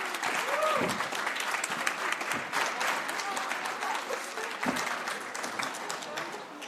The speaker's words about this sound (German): So, und jetzt möchten wir natürlich die Autorin auf diese Bühne bitten, unter einem tosenden Applaus, einen Riesenapplaus für Anna Basener.